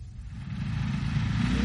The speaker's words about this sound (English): The second aeroplane took off from the big field opposite the farm.